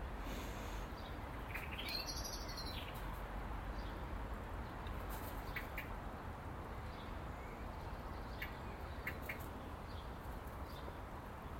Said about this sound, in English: Hello, Mrs. Blackbird. Where are you? Oh, you find that grape that my wife Mary threw out yesterday? She threw some grapes out. She's found it. Found one of them anyway. How are you doing, Mrs. Blackbird?